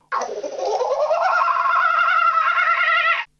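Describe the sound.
A person at a motel entrance, beside a painted wooden kookaburra on the stair railing, imitates a kookaburra's call with one sustained, warbling cry about three seconds long, starting low and rising into a steady, fluttering laugh-like tone, loud throughout with no other sounds.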